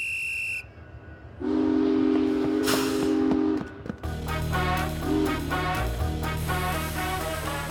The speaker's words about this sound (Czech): Ten vlak.